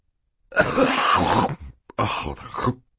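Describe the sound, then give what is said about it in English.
A voice acts out a man's long, muffled fit of coughing into a handkerchief in two drawn-out bursts, with a brief pause between them. The coughing is fairly loud, with no other sounds. “turned red and coughed into his handkerchief for quite some time before replying.”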